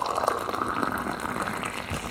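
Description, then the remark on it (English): Hot water pours steadily into a cup, a continuous bright splashing and gurgling that holds an even loudness for a couple of seconds with no voices over it. “When you pour water, the way it splashes into a cup is affected by the viscosity.”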